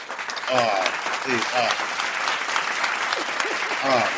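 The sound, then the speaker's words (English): A cheering and applause sound effect played to welcome a guest on Music Hype Beast: a burst of steady crowd applause with cheering voices rising through it, dense clapping sustained throughout, with excited shouts standing out around the start and the end. “Let me get the cheering on.”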